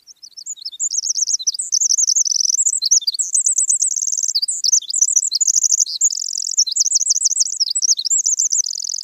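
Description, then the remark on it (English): A Pacific wren, also called winter wren, sings a long, continuous, rapid cascade of high tinkling trills and warbles, loud, without pause for about nine seconds. “What a fabulous long cadence of the little winter wren.”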